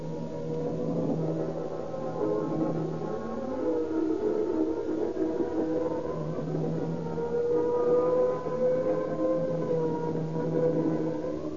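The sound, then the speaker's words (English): A fire engine siren wails continuously as the engine speeds through shattered streets to a fire at the Edison garage, its pitch sweeping slowly up and down over a low, steady engine rumble, loud and unbroken throughout with no voices. “Once again, the roaring, screaming engine speeds through the shattered streets, with men fleeing to them like insects.”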